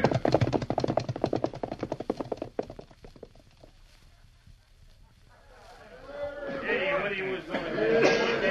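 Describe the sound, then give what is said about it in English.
Several horses are ridden off by a gang of outlaws who have taken them after stealing gold, in a rapid, clattering drumroll of hoofbeats that thins out and fades, then excited voices rise and fill the remaining seconds. “We'll get going and take the horses with us.”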